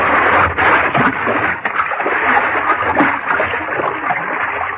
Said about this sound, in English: But when it came, I was caught off guard. Somebody hit me and knocked me into the water.